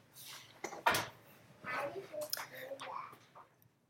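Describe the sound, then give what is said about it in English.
A single sharp bang of a door being pushed all the way shut by children, with a child's voice murmuring before and after. “No, close the door. Close the door. Close the door. All the way.”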